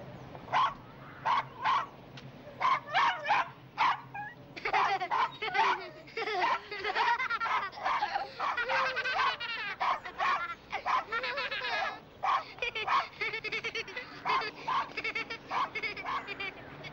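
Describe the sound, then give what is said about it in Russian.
A dog yips in short, repeated bursts, then breaks into a long run of high, whining cries and barks, fairly loud throughout. “Большое спасибо, собачка.”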